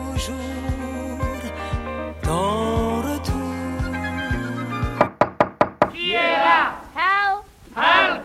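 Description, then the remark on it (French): Music plays on the France Culture morning show, then stops for a quick run of about five sharp knocks on a door to start a knock-knock game, followed by someone speaking. “Toc Toc. Qui est là?”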